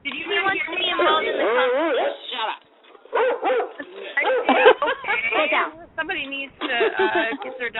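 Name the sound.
dog barking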